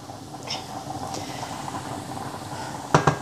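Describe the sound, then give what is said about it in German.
A steady bubbling hiss of pasta water simmering in a frying pan, loosening the bacon drippings from the pan bottom for a sauce, with soft crackles throughout and three quick knocks near the end; no one speaks. “So, genau, guck mal hier, wir haben jetzt ein bisschen Nudelwasser drauf gegeben. Und damit endgültig den wunderbaren Speck-Bratansatz von unserem Pfannenboden gelöst.”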